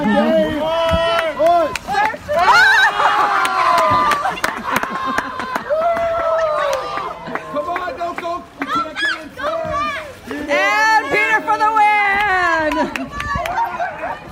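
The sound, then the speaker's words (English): A loud crowd cheers and shouts without pause at a close stand-up paddleboard race as a racer heads for the shore, many excited voices overlapping in high-pitched yells that surge and ebb in waves. “It's a close race, people. Come on, folks. Give him a cheer!”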